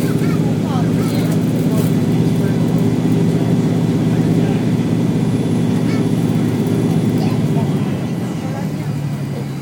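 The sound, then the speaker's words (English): Hovercraft engines roar steadily underneath the craft as it settles to a stop, a loud, continuous low drone with a heavy rumbling hum that holds throughout and eases slightly near the end. “Certainly the engines are thrusting away underneath still.”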